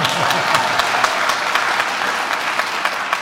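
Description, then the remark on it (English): A crowd claps steadily, a dense, sustained wash of applause with sharp individual claps scattered throughout, loud for the whole few seconds. “Applause, everyone.”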